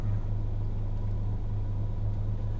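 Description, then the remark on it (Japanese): A steady, low droning rumble fills the inside of a car cruising along, with constant road noise and no voices, holding an even level from start to finish. “鮫島さんが今日あの収録でね車で来てるんで”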